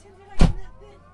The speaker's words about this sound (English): Okay, it'll light off right now. They hear the engine light off. Yep. Now it's modulating the start all by itself. The fuel is going in the engine. Blades are spinning, they start slow, and they go a little faster and faster until they get to idle.